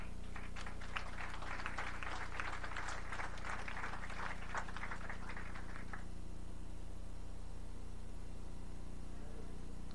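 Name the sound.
round of applause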